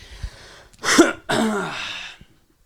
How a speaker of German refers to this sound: Katastrophe mit diesem Husten.